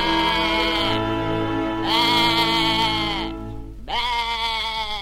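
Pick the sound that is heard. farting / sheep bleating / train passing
sheep bleating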